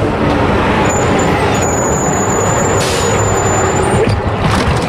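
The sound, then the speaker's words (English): Steady, loud roar of heavy street traffic on Massachusetts Avenue heading towards Boston, with cars and buses rumbling past, a high hissing whine threading through, like an air brake or engine, and no one talking. “And now I'm heading down Massachusetts Avenue, pointing towards Boston.”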